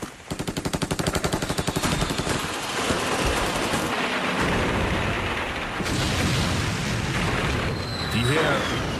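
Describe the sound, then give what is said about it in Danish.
Rapid bursts of automatic gunfire rattle steadily at the start, followed by dense, continuous shooting and heavy booms of explosions, with a man's voice speaking over the din; an archival recording of the Chilean army attacking the presidential palace in Santiago, Chile. “Skyderier og eksplosioner, man kan høre her i baggrunden, de stammer fra de berømte billeder, hvor den chilenske hær angriber præsidentpaladset i Santiago i Chile.”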